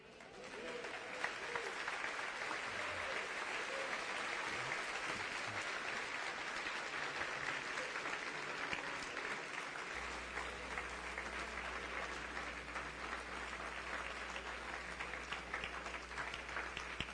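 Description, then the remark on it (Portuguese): Sustained applause from an audience, dense and steady throughout with a constant wash of many hands clapping at once, joined in the second half by a low steady hum underneath. “Essas palmas que vocês estão dando é para o meu discurso?”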